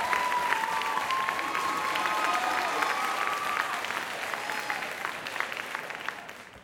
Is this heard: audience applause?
yes